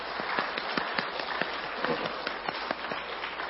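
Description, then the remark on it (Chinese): A steady burst of audience applause for the pastor's wife, many hands clapping in a dense, even wash of sharp claps with no voices, holding at a moderate level throughout. “但我今天很想真的给个鼓掌的师母。”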